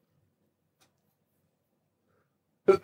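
sneeze

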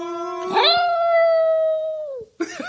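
dog howling

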